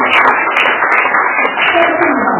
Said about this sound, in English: Clap your hands, you know.